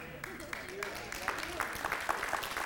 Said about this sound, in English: Is that a welfare clap? Or something stirring in you?